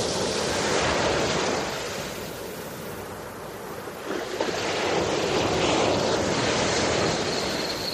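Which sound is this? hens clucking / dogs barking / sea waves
sea waves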